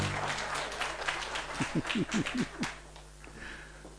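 An audience applauds in a steady, dense patter of many hands clapping at once. A brief low vocal sound rises midway through, and the clapping thins slightly toward the end.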